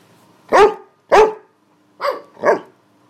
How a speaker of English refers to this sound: Now Darren gently tapped my arm and she started barking at him. But she's actually looking at me and barking.